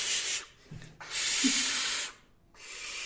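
A young owl gives repeated breathy, hissing calls: three loud, raspy bursts, the middle one longest, each separated by a short pause, with no voices.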